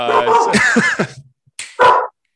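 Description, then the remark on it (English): A dog barks and yips in quick, loud bursts, with a brief pause before one final sharp bark. “Your dog knows. He's very responsive to anytime he's.”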